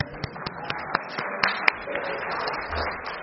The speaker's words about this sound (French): Oh, on applaudit Miss Gana.